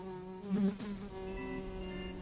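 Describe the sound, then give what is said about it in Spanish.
A steady droning buzz of many insects, with layered humming tones that swell briefly near the start and then hold at a constant, fairly quiet level. “cosas que nunca se dijeron, confesiones, alcohol, drogas e incluso un enjambre.”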